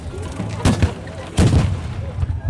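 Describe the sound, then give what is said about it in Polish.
Two loud booming blasts from historical artillery cannons, announced as the artillery of Charles X Gustav, fire less than a second apart. Each is a sharp crack followed by a deep, rumbling tail over a low background murmur. “Artyleria Karola Gustawa X!”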